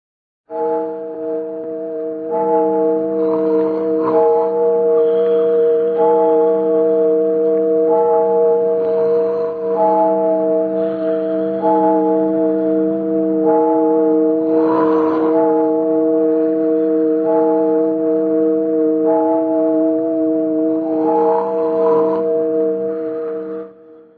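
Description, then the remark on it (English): A deep church clock bell strikes twelve at midnight in the rain, in a slow, steady series of strikes about two seconds apart, each ringing into the next so the low, humming tone never fully fades. “But, rain or no rain, we just waited and waited until the church clock struck 12.”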